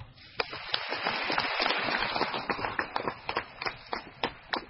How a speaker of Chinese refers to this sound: 对了，掌声这一次要给我短一点，因为我有两个字刚才没有好意思讲出来